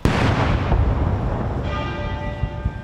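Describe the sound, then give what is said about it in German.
A deep boom rolls out at the start, then the Big Ben bell in London tolls with a long ringing hum during a royal funeral procession, while a few dull thuds of cannon fire follow underneath. “Während dem Trauerzug hat der Big Ben geläutet und es sind auch Kanonenschüsse ertönt.”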